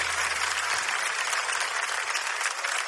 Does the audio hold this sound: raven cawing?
no